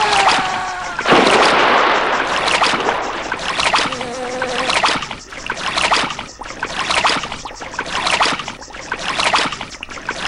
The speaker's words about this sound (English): Mosquitoes flying around.